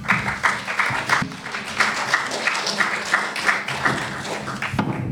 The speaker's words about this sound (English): Give him an applause.